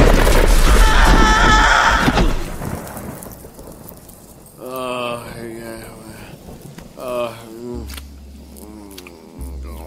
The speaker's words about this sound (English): That storm's getting closer.